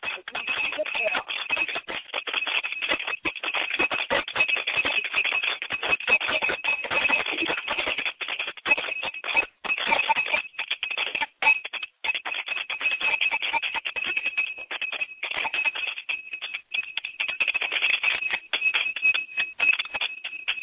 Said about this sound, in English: As we ring the bell, may the ancestors hear the call.